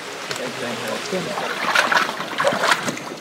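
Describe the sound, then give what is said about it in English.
Water sloshes and splashes in uneven bursts as someone wades through shallow, murky, swampy water in a tropical jungle while searching the area, the splashes growing louder midway, with a faint voice murmuring underneath. “Struggling through the muck, the spiders, and the rancid water, the smallest discovery raises hope.”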